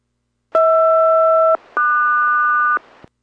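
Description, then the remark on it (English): An aircraft radio SELCAL chime on VHF radio number 2 during a radio check for Boeing 407: two steady electronic two-note chords, each held about a second, the second pair pitched differently after a brief gap, loud and clean with no voices. “Radio check and chimes on number 2 for Boeing 407.”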